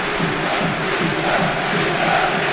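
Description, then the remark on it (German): Steady stadium crowd applause for Sebastian Hille as he is substituted off after being hurt in a foul, a dense, continuous wash of clapping and crowd roar at an even loudness throughout, with no single voice standing out. “Den Applaus, den hat er sich verdient.”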